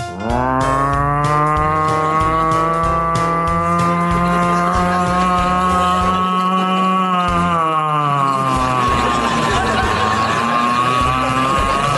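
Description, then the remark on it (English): A voice imitates the slow, old-fashioned siren heard after a gunshot at the end of the Hitchcock movie Rope: one long, loud, low wail that holds a steady pitch, then sags downward and wavers near the end, with no other talking. “And then you hear this old-fashioned siren.”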